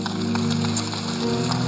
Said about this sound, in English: Church, let's give Him a clap.